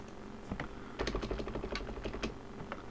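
A quick burst of clicky keystrokes on a computer keyboard, moderately loud, with a short pause before a denser run of rapid taps as the color values 00, 00, 00, FF are typed and Enter is pressed to change a cube's color to black. No one speaks.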